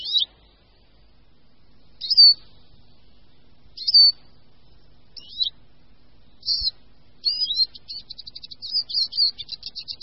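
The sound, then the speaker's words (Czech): Eurasian siskin song: thin, twittering high notes in short separate phrases, then a faster run of rapid trills and chatter toward the end, clear against a quiet background. “Oblibu tohoto drobného, čiperného, žlutozeleně zbarveného zpěváčka dokazují již prastará pomístní jména typu Čížova nebo příjmení Čížek.”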